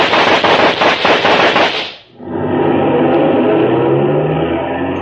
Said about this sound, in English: were those shots?